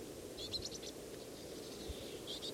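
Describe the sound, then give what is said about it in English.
A juvenile bird following one of the adults of its flock gives high, thin begging calls while fluttering its wings: two short bursts of rapid chirps, faint over a steady low rumble of background noise. “Appears to be following one of the adults, begging, fluttering its wings.”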